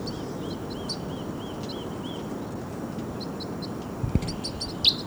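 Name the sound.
birds chirping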